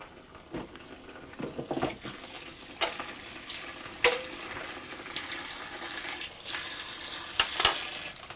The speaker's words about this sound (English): Right, there's the potatoes done anyway. Get them in some water.